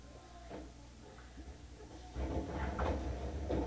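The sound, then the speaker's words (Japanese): The left-side sliding doors of a subway train open at Higashi-Umeda station with a mechanical thump and a rising whoosh of air over a steady low rumble, followed by a louder hiss of air and clatter. “左側の扉が開きます。ご注意ください。”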